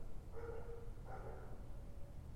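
Dogs bark twice, two drawn-out, muffled calls about a second apart, fairly faint over a steady low rumble of background noise.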